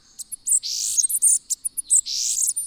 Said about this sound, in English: Their songs are variable, too. Bananaquits have developed hundreds of local dialects, like this bird recorded in Venezuela.